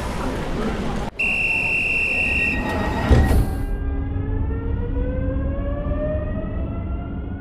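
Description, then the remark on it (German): A train pulls away: a steady, loud warning horn sounds for about a second, then a motor whine rises steadily in pitch over constant rumbling rail noise as it accelerates. “Achtung, Zug fährt ab. Bitte alle einsteigen.”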